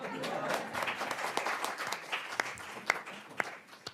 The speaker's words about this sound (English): This year marks Iowa City Foreign Relations Council's 40th anniversary. I thought that deserved an applause.